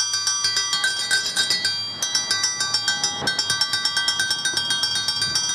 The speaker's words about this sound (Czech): Veliki školski čas, tradicionalna mirovna manifestacija koja se održava u Šumaricama kod spomenika streljanim đacima i profesorima. I ove jeseni počela je zvonjavom školskog zvona.